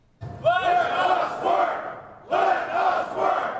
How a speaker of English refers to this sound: Let us work. Members of the fire department chanting outside City Hall.